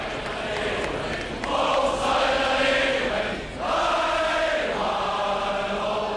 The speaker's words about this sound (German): Und überall tönen die gleichen, mehr oder minder spontanen Jubelchöre.